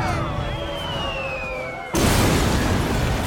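An air raid siren wails on a steady tone that slowly slides lower in pitch, warning of an incoming missile headed for Odyssey, then is abruptly swallowed by a loud, roaring blast of noise that continues to the end.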